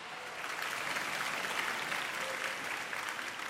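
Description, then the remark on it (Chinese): A church audience claps steadily throughout to welcome a pastor, a dense, even wash of many hands applauding at moderate volume with no pauses and no voices rising above it. “啊，我们真的是啊，来鼓掌。”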